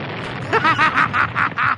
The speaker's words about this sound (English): Like bad things, like make things blow up like this.